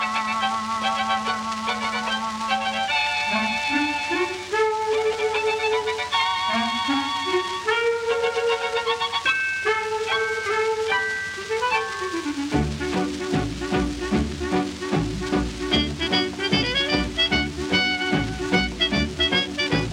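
A dance orchestra record plays loudly with no voices: sustained melodic lines and sliding instrumental phrases open, then a steady rhythmic beat joins about halfway and the full band swings on.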